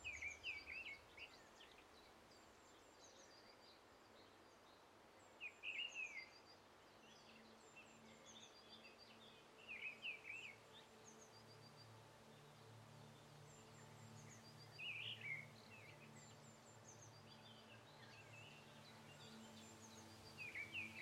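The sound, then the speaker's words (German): Faint, distant birds chirp softly in the trees in short bursts every few seconds over a steady low hum of outdoor ambience, with no voices present. “In der Ferne zwitschern die Vögel leise in den Bäumen und das Rauschen der Blätter im Wind beruhigt dich.”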